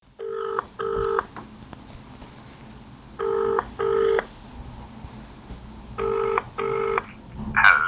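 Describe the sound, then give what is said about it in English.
A telephone ringing tone on a call placed for a telephone interview repeats three times, each a quick double ring separated by pauses, heard clearly down the line over faint background hiss with no one speaking. “let's get on the phone and speak to Alan”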